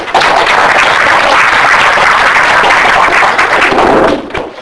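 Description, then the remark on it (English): Steady, loud applause from an audience welcoming a speaker giving a talk on religion, political philosophy, and the U.S. Supreme Court, a dense wash of clapping hands that holds for about four seconds before tapering off. “So now please join me in welcoming”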